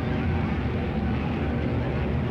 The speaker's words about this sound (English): The planes you hear above us should be coming from both the right and the left.